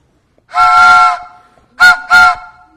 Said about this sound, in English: But what's a whistle of a train supposed to do?